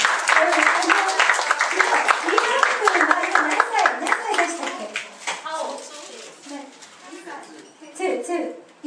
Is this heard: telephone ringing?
no